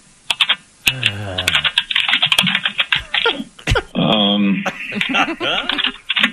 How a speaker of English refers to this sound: It's just him like rubbing his face on the keyboard just to try to put some sound there to annoy everybody else. Wrapping up a game of Fortnite or something like that?